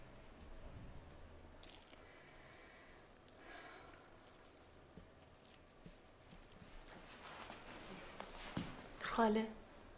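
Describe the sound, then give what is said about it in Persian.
Two coins are dropped for a bride onto a hard surface with a few scattered clinks, then a bright ringing metallic chime near the end, over a low murmur of background voices. “عروس خانم، چند تا سکه بندازم؟ دوتا.”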